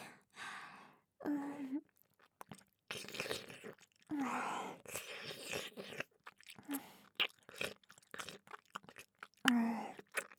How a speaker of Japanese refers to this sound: お耳の外側、食べられるの気持ちいいですか？